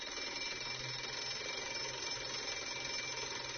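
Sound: school bell ringing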